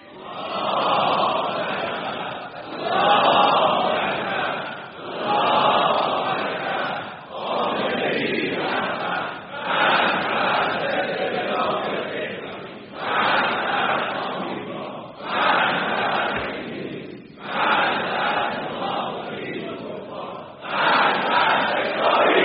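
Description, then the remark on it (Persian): A large crowd in the Islamic Republic chants a slogan in unison, roaring the same phrase again and again in steady bursts of about two seconds each, with brief dips between repetitions, loud throughout. “ما 35 سال است در جمهوری اسلامی این فریاد رو داریم میزنیم، فقط هم نمیگوییم، عمل میکنیم.”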